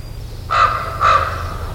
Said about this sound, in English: That's a raven.